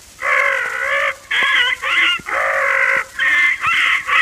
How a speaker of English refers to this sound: The parrot who squawked.